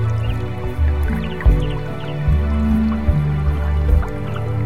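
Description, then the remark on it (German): A brook trickles and burbles steadily in the background, soft and somewhat distant, with small drips and splashes, layered over a low, sustained musical drone. “Du nimmst wieder den Duft der Blumen wahr und hörst den Bach in der Ferne rauschen.”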